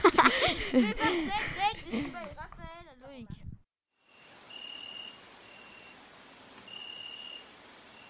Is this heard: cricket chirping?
yes